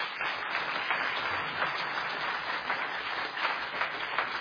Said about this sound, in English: God has given us these good, godly men. And I love them. How about a round of applause for all these men?